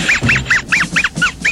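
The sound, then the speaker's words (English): A voice imitates a chicken with seven quick, nasal clucking squawks in a steady rapid rhythm, loud, with no other talking. “Bet I can make you laugh. Chicken.”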